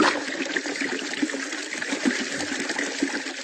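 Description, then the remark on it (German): Water gushes and sprays out of a waterbed punctured by the cat Garfield in a steady, loud hissing rush with small bubbling surges, continuous for the whole moment, with no voices. “Oh nein, mein Wasserbett.”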